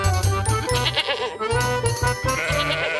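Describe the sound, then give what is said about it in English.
A goat and a ram bleat in loud, wavering cries that overlap almost continuously for a few seconds, set against a steady, rhythmic backdrop that may be music. “There was once a man and a woman who had one billy goat and one ram.”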